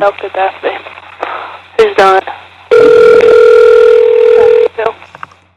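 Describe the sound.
Brief speech, then a loud, steady telephone tone hums for about two seconds before cutting off as a call is placed to a lead paint inspection business, followed by more talking.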